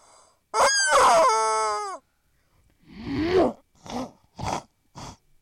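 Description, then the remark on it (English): A person imitates a chicken with a long, shrill, wavering squawk followed by a series of four short, clucking bursts, all vocalized with no other talk. “This is how chicken says it.”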